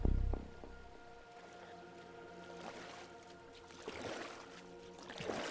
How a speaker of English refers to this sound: Well, you want to back out now? After we've rowed all the way out?